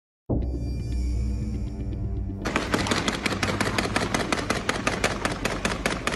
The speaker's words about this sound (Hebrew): כך נראית ונשמעת היממה האחרונה ברעת, ירי פיצוצים נפגעים, ובעיקר אימה. שמונה קליעים פה, ועוד שני קליעים על האוטו שלי, ועוד שני קליעים על הג'יפ.